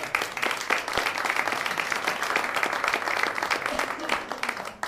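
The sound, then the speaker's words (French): A crowd applauds the members of the association Quasar at the 21st LGBT meetings in Angers, France, steadily for about five seconds, a dense, even patter of many hands clapping at a consistent moderate loudness with no voices standing out. “Et je crois qu'on peut les applaudir d'abord.”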